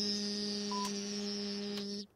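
A steady electronic telephone ring tone over a phone line, heard on the air during a call-in broadcast, holding one even pitch for about two seconds before cutting off abruptly, with a couple of faint clicks partway through. No one speaks.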